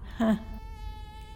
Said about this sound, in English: Oh, no. Oh, damn it. There's a mosquito in here.